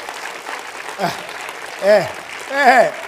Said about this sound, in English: Lift your hand and praise God. Lift your hand and praise God. Isn't that a sad clap?